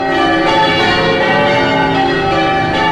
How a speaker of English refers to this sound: Yes, we journey beyond the vinyl frontier, drawn by the pealing of the bells.